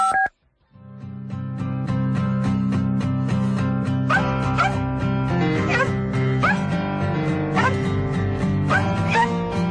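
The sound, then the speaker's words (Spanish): A bouncy song with dogs barking in time with the music, short sharp barks and yips repeating through its second half over a steady instrumental backing. “Que tenemos hasta perros cantantes y por eso hoy, para hablar de animales, de compañía, para hablar de perritos y de gatitos, nos ha encantado esta canción.”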